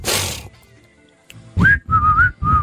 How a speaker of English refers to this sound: You do want to put this whistle in.